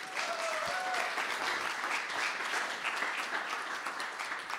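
Steady applause from an audience, dense clapping that holds at an even level throughout, with a few faint whoops or whistles early on and no talking over it.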